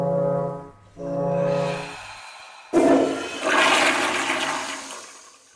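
Two low, droning hornlike tones sound in succession, then a loud toilet flush bursts in, its rushing, gurgling water swelling and slowly draining away. No one speaks.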